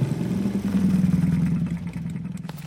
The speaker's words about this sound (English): Shortly after Grammy left, Little Red came along riding her scooter.